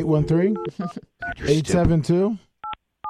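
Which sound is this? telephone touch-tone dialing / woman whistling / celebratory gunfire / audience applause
telephone touch-tone dialing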